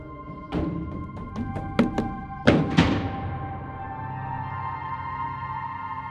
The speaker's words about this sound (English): stomping out of the kitchen and upstairs to her room, strategically slamming the door behind her.